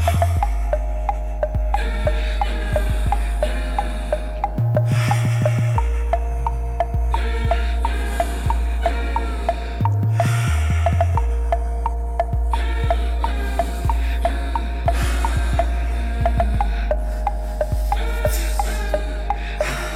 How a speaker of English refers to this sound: wouldn't it seem more likely that the moans and heavy breathing are actually a depiction of … masturbating?